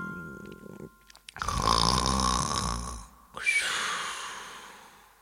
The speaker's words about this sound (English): Soon the magician was snoring on the bed.